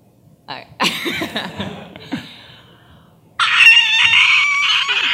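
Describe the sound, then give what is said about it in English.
A person imitates the screech of Omnigul with their voice: a few rough, croaky vocal bursts, a brief pause, then a loud, sustained, shrill high-pitched screech lasting almost two seconds. “And well, I am gonna make just at least a little screech.”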